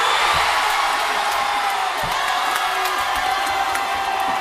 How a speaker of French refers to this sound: Nous sommes à la 9e minute de jeu. Eugénie Le Sommer ouvre le score sur un centre d'Amandine Henry devant une foule de supporters en folie.